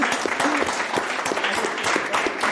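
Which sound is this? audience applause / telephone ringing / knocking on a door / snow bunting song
audience applause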